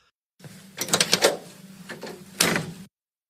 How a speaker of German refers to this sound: Ja, dann möchte ich noch auf einen Sound dich aufmerksam machen. Du bist ja jemand, von dem man sich erzählt, dass er früher ein Auto wieder zurückgegeben hat, weil ihm es nicht gefallen hat, wie es klingt, wenn er die Tür zumacht.